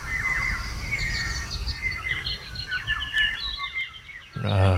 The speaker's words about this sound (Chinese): 整个森林都是鸟叫，然后太阳还正要起来而已。很难描述那个状态